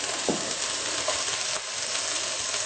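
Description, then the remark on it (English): Steady, dense sizzling as kale fries in a hot frying pan, a crackling hiss with small pops and a brief stirring scrape, no voices. “Could you add the kale sure. to the frying pan? Absolutely.”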